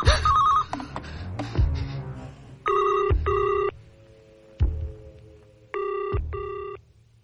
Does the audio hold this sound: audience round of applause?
no